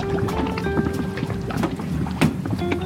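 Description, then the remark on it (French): A boat's motor drones steadily as the boat sets off on the sea in the Calanques National Park, Bouches-du-Rhône, France, with water splashing against the hull and gusts of wind buffeting the microphone. No one speaks. “Allez, le bateau, on y va.”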